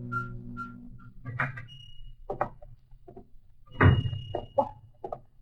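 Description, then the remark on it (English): The door of a clock shop full of ticking clocks opens with a brief ringing tone, followed by scattered knocks and clicks and a solid thump as it closes, moderately loud, with no talking. “A chorus of ticking clocks hit me between the eyes the moment I opened the door.”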